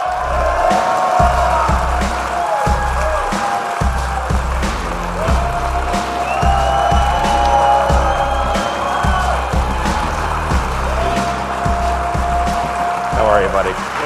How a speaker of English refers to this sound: Hall of Famer, ladies and gentlemen, a round of applause. Got a Hall of Famer here.